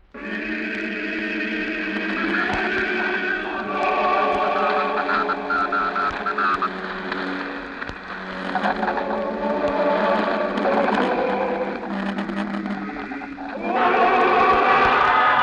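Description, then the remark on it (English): A loud, sustained roar of a cheering crowd in New Mexico as the crew of the spaceship Venture walk up the catwalk to the ship, many voices shouting together in a dense, unbroken wall of sound that dips briefly and then swells again toward the end. “We're sorry to cut in, but that roar you're hearing, the roar of the crowd, it's the moment we've been waiting for.”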